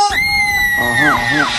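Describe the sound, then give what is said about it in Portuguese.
A crowd lets out a short, loud burst of high-pitched screaming and squealing, answering a call to give a little scream, with several voices blending over a noisy, busy background. “Quem não vale nada, dá um gritinho.”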